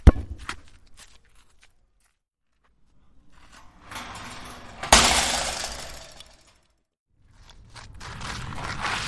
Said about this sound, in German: Das zweite Geräusch war, ein Metalltor zuschlagen.